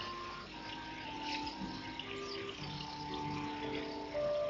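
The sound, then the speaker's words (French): River water rushes steadily throughout, a continuous broad splashing flow, moderately loud, with no voices present. “Arrêtons-nous près de cette rivière et je t'en prie, baptise-moi.”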